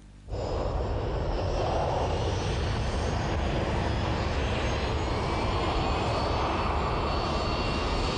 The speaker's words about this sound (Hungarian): Kéne ismerni azt a bizselgető érzést, amikor egy repülőgép fel vagy éppen leszáll. A sokak számára örömet nyújtó érzés azonban több százezer ember életét keseríti meg. A zaj ugyanis egyre nagyobb és elviselhetetlenebb.